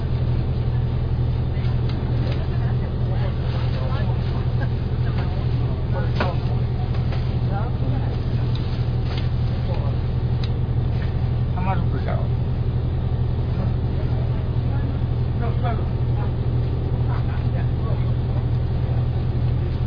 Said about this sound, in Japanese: 信号待ちの電車です。発車まで少々お待ちください。